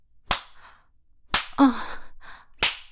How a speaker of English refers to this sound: Oh my God, stop slapping my ass. Well, I don't actually mean stop. You can keep going.